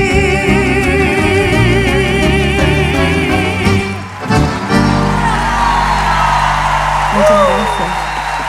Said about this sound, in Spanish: Qué placer, muchas gracias, un sueño. Fuerte ese aplauso, bien, bien arriba. Muchas gracias.